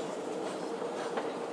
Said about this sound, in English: Sounds like there might be a train coming, maybe.